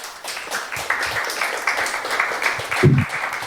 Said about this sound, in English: Big applause for the lady.